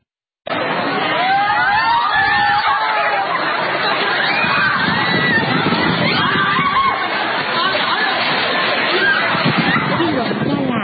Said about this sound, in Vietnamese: Trong lúc những ý kiến tranh luận về hiện tượng xã hội mất trật tự mỗi ngày một tệ hơn đang sôi nổi, thì một lần nữa công chúng lại chứng kiến hình ảnh la hét tranh giành thức ăn ở một tiệc buffet.